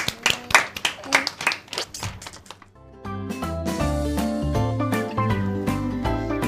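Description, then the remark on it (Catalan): A short burst of clapping from a small group for two children on a radio news programme, quick uneven hand claps lasting a couple of seconds, fading before a steady musical tune takes over. “un aplaudiment molt fort per als dos.”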